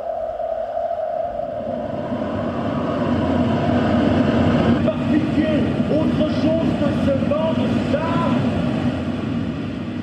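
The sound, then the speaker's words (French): Wind rising in the desert builds into a steady, rushing roar that swells over the first few seconds, with thin whistling tones rising and falling above the low rumble. “Le vent se lève, on se met à l'abri.”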